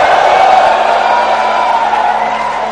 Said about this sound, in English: Lift your hand and give the Lord a shout of hallelujah and praise.